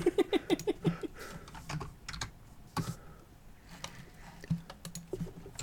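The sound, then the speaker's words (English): Loud, rapid clacking of a mechanical keyboard, keys struck in quick irregular bursts with brief pauses between runs of typing, no voices present. “Yeah, I'll get to hear my deafening keyboard, which I'm definitely going to edit out or have edited out because mechanical keyboards is not a good look for a podcast.”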